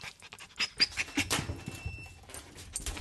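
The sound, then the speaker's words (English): A small dog named Puff, not a greyhound, pants quickly and steadily, its short breathy huffs repeating over faint rustling and a soft whimper, as a veterinarian draws blood from it. “draws blood from a little dog, not a greyhound, named Puff.”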